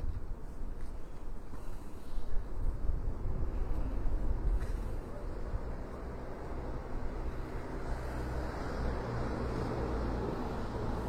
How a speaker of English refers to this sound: Okay, do you want to gather around? I'm just very conscious of the traffic and what have you.